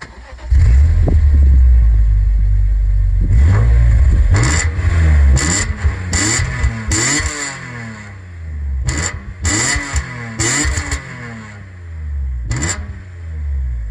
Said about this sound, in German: Heute, das können wir zumindest jetzt auch schon mal sagen, der erste BMW. Es wurde Zeit. Wir haben uns ein bisschen dieses Auto aufgespart und ohne große Umschweife würde ich sagen, wir hören uns jetzt erstmal den Sound dieses Autos an.